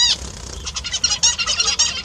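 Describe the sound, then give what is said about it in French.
A zebra finch, a small bird with a bright orange pointed beak and zebra-like stripes on its chest, sings a quick, continuous run of buzzy, nasal chirps and harsh stacked notes, fairly loud, with no other sounds. “un petit oiseau avec un bec pointu orange vif et des rayures en forme de zèbre sur sa poitrine”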